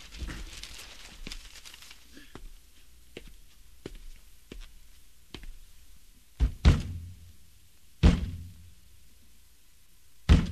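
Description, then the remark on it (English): A hand strikes the side of a faltering radio's cabinet: a run of light, sharp taps, then several heavy thumps spaced a second or two apart, with nothing else going on. “Bang it again.”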